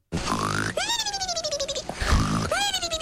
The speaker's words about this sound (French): C'est toi qui ronfle comme ça? C'est moi, ouais. Vache. T'as vu ça? Incroyable. Et on m'a enregistré pendant mon sommeil. C'est terrible.